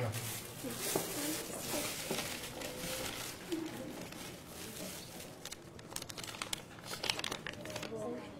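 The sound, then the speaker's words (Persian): Continuous crinkling and rustling of small paper slips, with family names written on them for a raffle draw, being collected into a plastic bag, with sharper crackles toward the end and faint voices murmuring in the background. “کاغذ رو جمع کن بذار تو این پلاستیک.”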